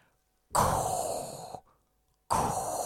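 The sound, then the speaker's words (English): Heavy, raspy breathing right up against the microphone, an imitation of Darth Vader's breathing: one long, loud breath lasting about a second, a brief pause, then another begins, deliberately exaggerated like respirator breathing. “That's my Darth Vader breathing.”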